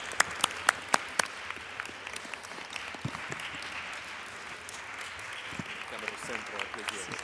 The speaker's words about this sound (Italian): Grazie, un applauso. Grazie mille. Grazie.